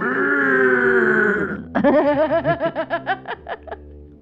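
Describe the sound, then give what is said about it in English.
A voice imitates a buzzing alien: a steady, nasal droning hum lasting over a second, then breaking into a quick run of about ten rhythmic, wavering buzzy pulses. “I'm going to put more buzz into that. Here, I'll do the buzzing.”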